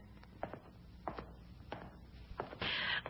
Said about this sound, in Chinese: 我听见脚步声，就知道是我的夫君回来了，真等不及要见陛下的面。